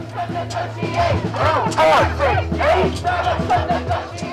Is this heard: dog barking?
no